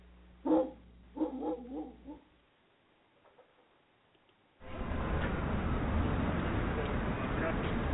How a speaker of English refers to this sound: Let me tell you about my dog Monty. Oh, what a pound. Oh, what a pound. Monty, you could stop barking now. The song's over.